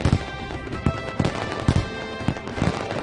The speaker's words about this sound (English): in his 10-plus years of experience with pyrotechnics, fireworks displays choreographed with music are hands down the favorite with Americans.